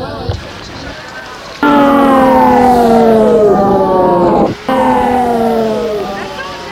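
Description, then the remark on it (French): An ambulance siren wails loudly outside, its pitch sweeping up and down in long glides, briefly cutting out before resuming after a quieter opening moment; the ambulance waits in front of an old building in the Marais. “Dehors, une ambulance attend.”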